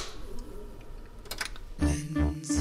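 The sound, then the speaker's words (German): A record player at a kitchen counter is switched on: a few mechanical clicks and light crackle, then a low hum and tone start up as the needle settles and plays a chocolate record of sung cooking recipes, with no one talking. “Plattenspieler einschalten reicht.”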